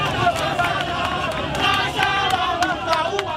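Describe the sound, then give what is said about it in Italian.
A large crowd of mourners in the streets during a funeral service shouts slogans against the police together, including "We are all Ushindi", a dense, steady roar of many raised voices with sharp claps or bangs cutting through at irregular moments. “Siamo tutti Ushindi, grida la marea dei presenti.”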